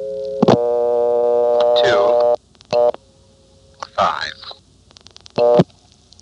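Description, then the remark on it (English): A steady telephone line tone hums for a couple of seconds, then short tone bursts follow at intervals, like digits being dialed, with a man briefly speaking between them, as a ringing number in the 8500 group is called the short way. “Here's calling a ringing number the short way.”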